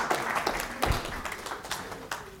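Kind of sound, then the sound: crowd, round of applause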